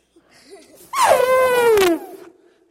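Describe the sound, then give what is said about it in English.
A person imitates a cat's meow: one drawn-out, whiny vocal tone lasting about a second, starting high and sliding steadily lower, with only faint murmuring before it. “Now, meow like a cat. Okay, and snort like an elephant.”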